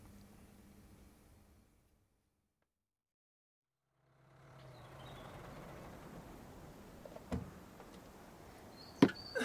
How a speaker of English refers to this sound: Yeah, my dad, he's been threatening to fix this exhaust for ages, but... I think he just pads it out so it stops making a racket.